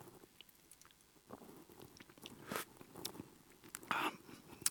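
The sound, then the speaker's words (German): Someone drinks water: a string of faint wet sips, gulps and mouth clicks at an irregular pace, with a few sharper swallows near the end, and no talking. “und dieses Wasser, was du weitergibst, mal versuchen zu trinken.”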